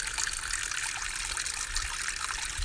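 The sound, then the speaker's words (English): Water runs steadily from a tap in a continuous, hissing trickle with a bright splashing texture, fairly loud, with no voices over it. “I love the way this water just comes out.”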